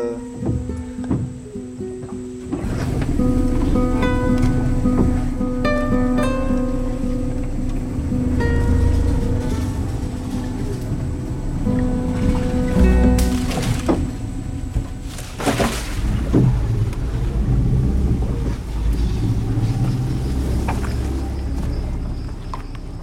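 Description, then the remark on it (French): After a quiet couple of seconds, a boat motor is started up again and runs steadily and loudly, with a low droning hum, churning water noise and a few clunks partway through. “Bon bah là, je remets le moteur, hein. On va casser un peu la tranquillité.”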